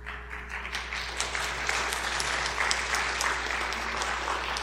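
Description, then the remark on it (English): A crowd applauds steadily for several seconds, a dense, even wash of many hands clapping at once, moderately loud, with no talking over it. “I just got to tell you, I kind of miss being in Africa a little bit, because, you know, when something happens over there, those people don't just clap.”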